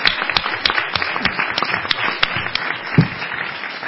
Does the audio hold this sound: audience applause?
yes